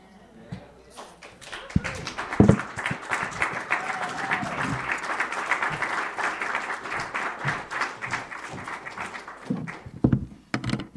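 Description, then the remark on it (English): An audience breaks into a sustained round of hand clapping, a dense crackle of many hands that swells quickly and holds steady for several seconds before tapering, with a few louder thumps mixed in. “Let's give them both another hand clap.”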